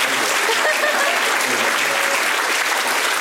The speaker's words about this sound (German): Und jetzt stehe ich auf einer Bühne und kriege Applaus für Dummheit.